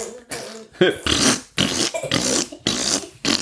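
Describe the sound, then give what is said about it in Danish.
A quick, steady run of squelchy, wet footsteps running through a landscape of cheese, feet slapping and sinking into the soft, sticky cheese. About seven fairly loud squishes with brief gaps between them. “Sagde Bamse, det lyder som om, vi prutter hver gang, vi tager et skridt.”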